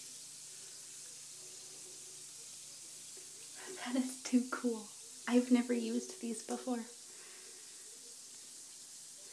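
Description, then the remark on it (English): A steady, soft fizzing hiss runs through the whole recording as a vanilla bath bomb dropped into water dissolves, while a person speaks briefly over it midway. “It sounds like when you spill pop or something. Like that fizzing noise.”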